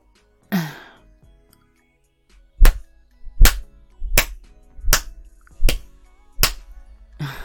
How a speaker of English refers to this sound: You want to play the slapping game?